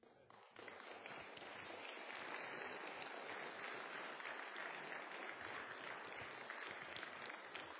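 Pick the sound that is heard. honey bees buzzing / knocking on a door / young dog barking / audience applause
audience applause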